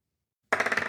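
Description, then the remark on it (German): Silence, then dice suddenly clatter onto a hard table, a quick rattling of small rapid clicks that keeps going as they roll and tumble, one die rolling away behind the computer. “Jetzt ist er weggerollt hinterm Rechner.”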